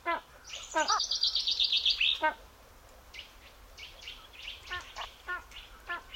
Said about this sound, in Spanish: Un ladrido seco y potente llega desde lo alto y cubre una amplia extensión de terreno. Un águila imperial sobrevuela su cazadero.